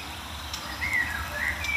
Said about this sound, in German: Neben mir ist auch eine aufgeregte Mönchsgrasmücke. Mild aufgeregt, würde ich sagen.